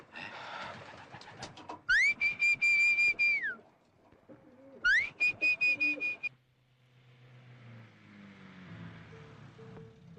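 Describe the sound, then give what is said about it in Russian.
A nervous pigeon coos in two loud bursts of pulsing, tonal calls separated by a short pause, followed by a low, steady rumble like an engine. No one speaks. “тихо, голубь занервничал”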